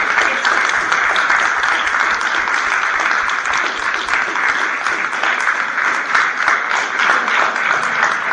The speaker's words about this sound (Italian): Quindi io proprio farei un grossissimo applauso dal cuore per questa, proprio per quest'anima.